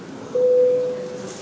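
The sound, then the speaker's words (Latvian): A single steady signal tone, a parliament voting bell, sounds for about half a second at moderate loudness over a quiet hum, with no one talking, calling a vote on a draft amendment to the law on state pensions in first reading. “Lūdzu, zvanu, balsosim par likuma projektu grozījumu likumā par valsts pensijām 1. lasījumā.”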